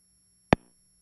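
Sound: phone line tone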